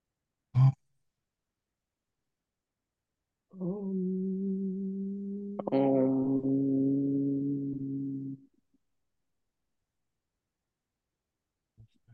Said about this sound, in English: And now, if you like, feel free to unmute your line and bring your palms together in front of your heart center. And let's chant together the Sanskrit word for being, Om.